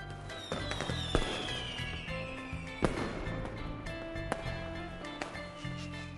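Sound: fireworks exploding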